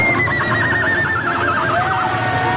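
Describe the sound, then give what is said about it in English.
A woman's voice imitates a horse's whinny, as she does every time Oklahoma scores: a loud, wavering high-pitched neigh that quavers rapidly before sliding down at the end, heard alone without speech. “This is a woman making a horse noise.”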